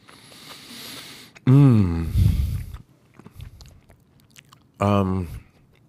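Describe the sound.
Soft mouth sounds of someone chewing food, with a couple of short, louder voiced hums or murmurs breaking in partway through.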